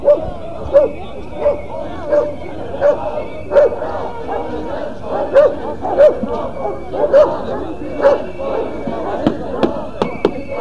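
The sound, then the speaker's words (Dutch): Six police dogs bark loudly and repeatedly at a protest, a steady string of sharp barks every half second or so, over a constant murmur of crowd voices and scattered clatter. “Er staan hier zo'n 50, 60 politieagenten. Ze hebben 6 honden.”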